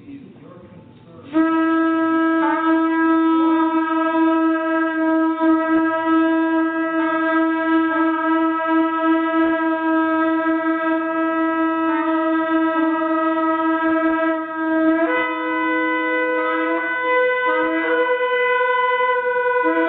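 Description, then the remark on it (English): A recording of a shofar blares in one long, sustained blast lasting nearly the whole clip, a loud, brassy tone rich in stacked harmonics, with a few slight wavers in pitch and no voices. “And so let's play the recording of the shofar.”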